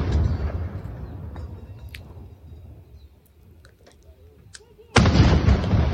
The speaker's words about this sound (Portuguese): Ali de perto eu posso afirmar que passa de 100 decibéis uma explosão dessa e causa impacto.